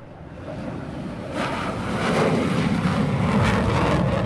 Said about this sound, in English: Four Chinese fighter planes in a tight formation barnstorm past assembled military attachés and foreign journalists.